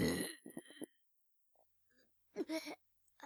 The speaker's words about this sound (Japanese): なにこれ、ゲップが止まる。